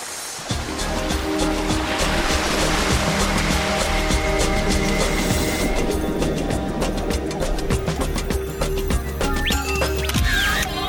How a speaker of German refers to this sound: Einmal noch durchschneiden die Rückenflossen das Wasser, dann fährt das Versorgungsschiff einer Lachsfarm vorbei und die Delfine, sie tauchen ab.